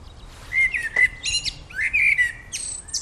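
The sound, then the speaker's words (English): A blackbird sings a run of fluting, warbled phrases with short pauses between them, clear against a low, steady background hiss. “So we have, we think, two blackbirds that aren't totally black.”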